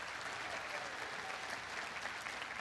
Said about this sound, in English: Let me share with you this evening, the greatest visionary in the whole world is none other than the Lord Jesus Christ. Give him a clap offering of praise tonight. He alone is worthy.